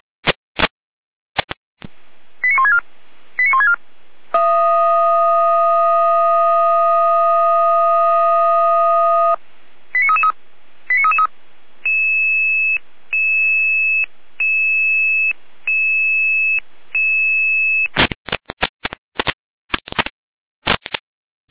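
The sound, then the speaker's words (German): A loud fire brigade alerting sequence: sharp clicks and short warbling tone bursts, a long steady multi-tone siren blast, then a repeated pulsing tone pattern, ending in a flurry of rapid clicks and bleeps. No voices. “Letzte Lena mit Alarmierung.”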